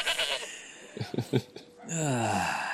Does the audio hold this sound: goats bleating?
yes